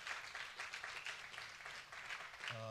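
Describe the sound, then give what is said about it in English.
An audience claps together in a dense, sustained round of applause filling the room, with a voice starting up faintly right at the end. “Yes, you can clap if you want to.”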